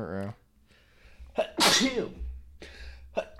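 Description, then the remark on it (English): A loud sneeze bursts out mid-clip with a sharp intake and explosive release, surrounded by brief bits of voice and breathy noise before and after. “Sneezing.”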